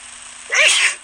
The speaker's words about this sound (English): Bless you.